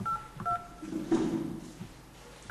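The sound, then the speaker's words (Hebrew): Short dual-tone telephone keypad beeps as a password is punched in on a phone system, about three presses spaced unevenly, with a low muffled rustle between them and no voices. “נא הקישו את הסיסמה שלכם.”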